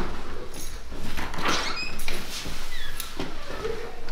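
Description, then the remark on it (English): A fairly steady rattle of metal keys jingling and clinking for a few seconds as they are handed over to someone, with light handling knocks mixed in and no talking. “Here's the keys, my friend.”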